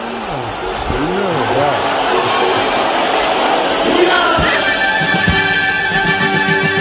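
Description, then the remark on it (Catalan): A large crowd sings the anthem of the USAP club together, a loud, steady mass of voices with swooping melodic lines and a roaring, chant-like texture throughout. “Això és l'himne de l'USAP”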